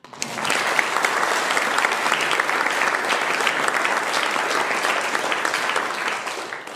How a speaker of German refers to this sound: Übrigens mal einen Applaus für meine Schreiberin.